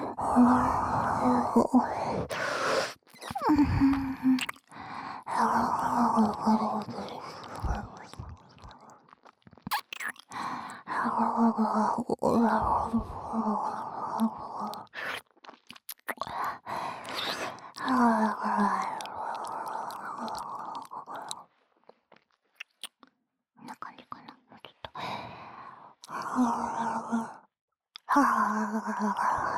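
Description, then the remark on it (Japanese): Breathy sighs and whispered exhales follow one another in soft, airy bursts, some with a faint moaning tone, separated by brief pauses of near silence. “待って、次、吐息？”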